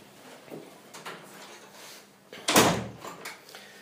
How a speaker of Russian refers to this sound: Давайте дверь закрываем.